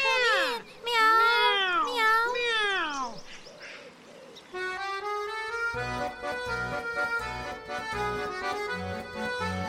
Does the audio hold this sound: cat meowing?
yes